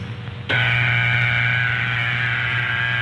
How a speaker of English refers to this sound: Sounds awful. Wow, that's totally obnoxious. Why was that what you heard? That sounded like a computer fart. The dial tone is the equipment's way of telling you that it's ready to put through your call.